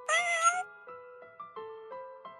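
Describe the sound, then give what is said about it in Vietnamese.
A big, fat cat named Moon lets out one loud, drawn-out meow, followed by a quick series of shorter, softer mews and chirps. No one is talking. “Chương 2. Con mèo Moon to đùng mập ú.”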